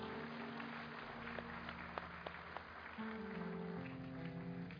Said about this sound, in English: Please just give the clap offering at the Lord.